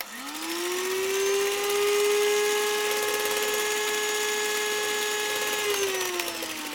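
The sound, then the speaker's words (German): An electric hand mixer whirs up to speed, mixing a batter made with quark and crème fraîche, holding a steady high motor whine with buzzy overtones for several seconds before slowing at the end. No one speaks. “Okay, dann hier kommt das jetzt ohne Wolke in dieses Rührgerät, in den Mixer.”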